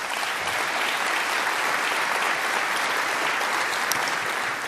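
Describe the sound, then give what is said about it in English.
Sustained applause from a large audience thanking the event organizers before a question session, a dense, steady wash of many hands clapping at an even loudness for several seconds, with no voices rising above it. “Yes, and even though they ask you to applause yourself, I think we still have to thank them for giving us a reason to be all here at the same place.”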